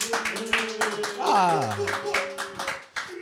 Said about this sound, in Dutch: Dan zit je hier tussen het publiek dat nu lawaai gaat maken.